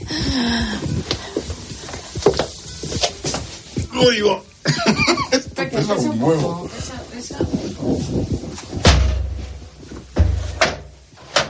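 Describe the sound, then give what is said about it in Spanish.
A door is pushed shut at a library with a few clattering knocks and a solid thump near the end, while voices talk and murmur. “Y vamos a cerrar bien la puerta, ¿no? Muy bien, vamos a cerrarla, sí.”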